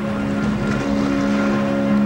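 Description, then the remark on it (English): A boat motor drones steadily on the water as the boat turns away instead of heading into shore, a constant loud hum with a low engine tone and wind noise across the microphone, with no voices. “But instead of heading into shore, the boat starts to turn away.”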